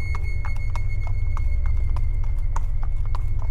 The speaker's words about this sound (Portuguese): e a gente vinha troteando nos cavalos